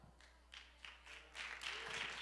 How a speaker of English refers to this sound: I thought I'd get a louder hand clap on that one.